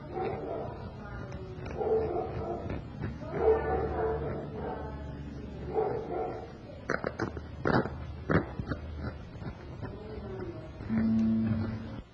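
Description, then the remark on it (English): A dog barks several times in a quick, sharp cluster partway through, moderately loud against a murmur of voices and room noise, with a short whine-like tone near the end. “We may have a nice dog accompanying us this time. There may be a, as you are hearing right now, but it's all right.”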